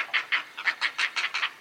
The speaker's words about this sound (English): Hear those chicks calling? They're nestlings at a great blue heron colony.